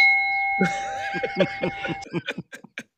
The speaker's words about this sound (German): Der Gong zum Gruße.